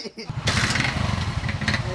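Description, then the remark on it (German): A motorcycle engine runs with a steady, rough low throb, revving slightly in a busy motorcycle repair workshop that serves as a vocational training site, after a brief quieter moment at the start. “darunter eine Schneiderei, eine Schreinerei und eine Motorradwerkstatt. Hier hat Aristot seine Ausbildung absolviert.”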